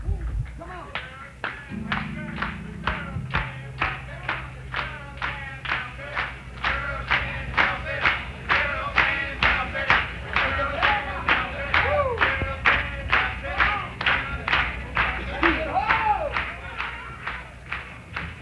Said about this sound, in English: I want everybody in the audience to clap hands. Everybody.